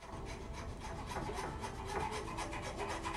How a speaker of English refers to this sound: is sawing the edge off a table in the kitchen.